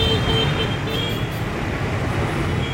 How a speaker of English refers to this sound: Scooters going by.